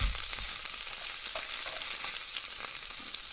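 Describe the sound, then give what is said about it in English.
Steady sizzling of dishes and idli frying in a pan in an apartment kitchen, a dense crackling hiss that carries on without pause, with a few soft clinks and stirring noises mixed in. “Kamal and Anitha both cook the dishes and the idli”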